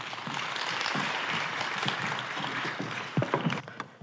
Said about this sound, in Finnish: annetaan heille oikein raikuvat aplodit.